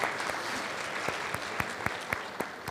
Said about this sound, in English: So I really think we should owe ourselves a round of applause for all of the presentations that have made to this conference.